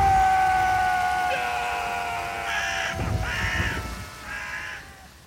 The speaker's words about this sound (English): The sharp-eared of you would have heard a crow and a sheep in there. And we put a crow and a sheep in every single episode of this programme.